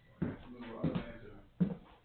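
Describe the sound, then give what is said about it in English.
A door being closed, heard as three dull, heavy thumps spaced irregularly over about two seconds, with faint indistinct voices murmuring underneath. “So I'm going to close the door just for.”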